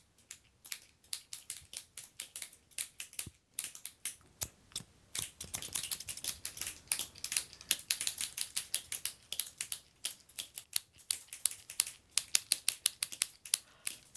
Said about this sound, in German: Und da ist so eine Schere. Was macht die? Die macht dieses Geräusch.